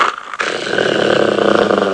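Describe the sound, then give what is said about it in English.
A loud, rough, horrible growling rumbles continuously after a brief pause at the start, menacing, coming from outside a window, with no talking over it. “Just then, there was a horrible growling sound outside the window.”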